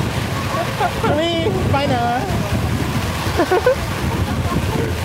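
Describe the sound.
Heavy rain pours outdoors in a steady, dense hiss that never lets up, while people talk briefly over the downpour.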